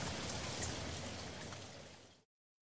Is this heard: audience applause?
no